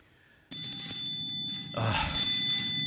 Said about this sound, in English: If that's the bell, sir, somebody's hurt, sir, and they're wanting you.